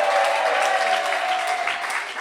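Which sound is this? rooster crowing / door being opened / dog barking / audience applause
audience applause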